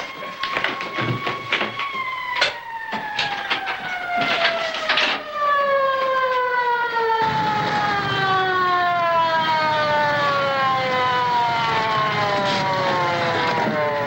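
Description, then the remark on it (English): A loud police car siren wails steadily with a smooth, continuous tone that gradually drops in pitch as the police car approaches and passes, arriving at a house, with some clattering street noise early on. “Policemen get out of the car.”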